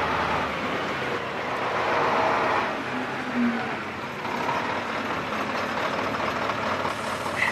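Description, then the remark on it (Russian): A car engine idles steadily after braking, a continuous low rumble with broad noisy texture that holds at an even level throughout, with no voices. “Давай, тормози, шутник.”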